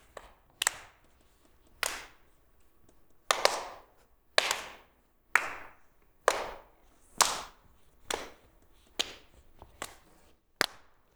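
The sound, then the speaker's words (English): Single sharp hand claps, passed around a circle of people in a game, with neighbours clapping at the same time. They follow one another at a steady pace of about one per second, roughly a dozen in all, some louder, others softer, with no talking between them. “And to pass the clap, you're gonna clap at the same time, like this.”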